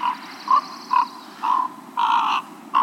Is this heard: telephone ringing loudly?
no